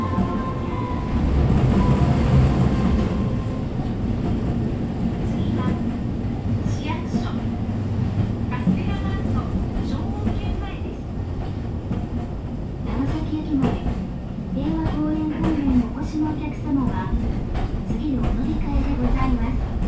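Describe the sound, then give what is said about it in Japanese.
A train departs, pulling away with a steady, loud low rumble, and a wavering electric motor whine rises as it gathers speed. Faint, indistinct voices sit under the noise. “発車します。つり革や手すりにおつかまりください。”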